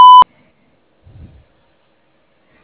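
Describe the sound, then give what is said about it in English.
A single short, loud electronic answering machine beep sounds at the very start, followed by near silence and a brief faint low rumble, like a breath or shuffle. “I'm unable to get to my phone right now, but if you'll please leave me your name, number, and a short message after the beep, I will get back to you as soon as possible.”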